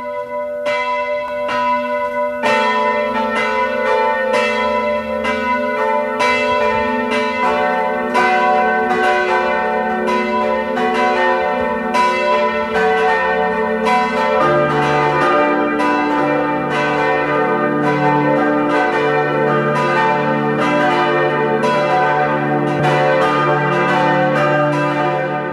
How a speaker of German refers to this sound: Es ist 12 Uhr. Sie hören die Glocken der Pfarrkirche Reichenfels in Kärnten.